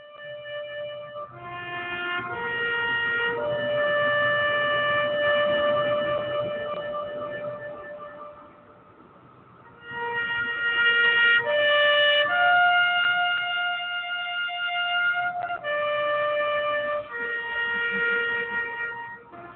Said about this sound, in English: Very moving to hear Taps there.